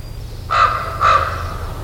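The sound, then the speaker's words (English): Two loud, harsh croaking calls from a common raven, evenly spaced about half a second apart, heard clearly over a low steady background rumble with no talking. “That's a raven.”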